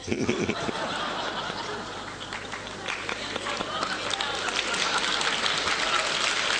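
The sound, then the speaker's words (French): A crowd of men and women applauds steadily, a dense wash of overlapping claps that holds at an even, moderately loud level throughout, with scattered laughter and murmuring mixed in. “Même les femmes applaudissent parce qu'elles savent que le contraire est vrai.”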